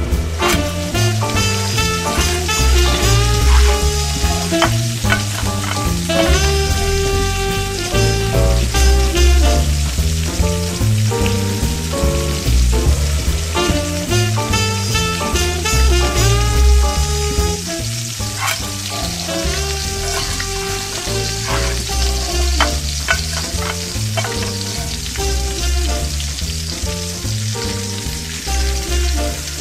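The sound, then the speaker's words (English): Dishes sizzle and crackle steadily in a frying pan, continuous, layered over upbeat royalty-free background music with a regular beat; no one speaks. “let's cue up some royalty-free music and the sounds of delicious dishes sizzling away.”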